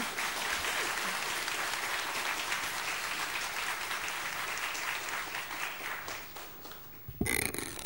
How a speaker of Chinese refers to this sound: 那他很紧张，给点掌声他。